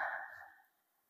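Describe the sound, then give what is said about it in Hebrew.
A single soft, breathy exhale of a deep breath, a gentle airy rush that fades away within about half a second, leaving near silence. “זה נשימה עמוקה.”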